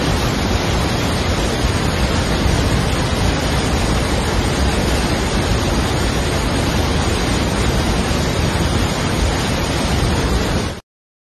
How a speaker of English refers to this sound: This is called the Devil's Cataract. It's the first waterfall at the Victoria Falls. Just have a look.